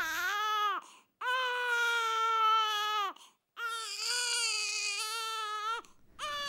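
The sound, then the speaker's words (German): A baby cries inconsolably, loud sustained wails broken only by quick gasping breaths between three long bursts, with no other voices. “Eltern von Babys, die untröstlich schreien, obwohl Grundbedürfnisse wie Hunger und menschliche Nähe ausreichend beantwortet wurden, begegnen einer Reihe von Vorurteilen.”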